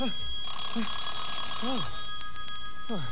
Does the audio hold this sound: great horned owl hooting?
no